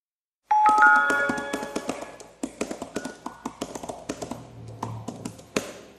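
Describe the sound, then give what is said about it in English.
A brief ringing chime, then crisp keystroke clicks on the keyboard of an original, older iPad, tapping out in quick, uneven bursts for several seconds, with no one speaking. “But as for an iPad, I'm going to do a little bit of typing on the original one here.”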